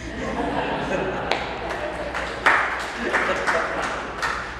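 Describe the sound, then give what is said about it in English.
An audience at a church denomination gathering applauds steadily for several seconds, a dense wash of many hands clapping with a few sharper, louder claps standing out, and a low murmur of voices underneath. “You may applaud.”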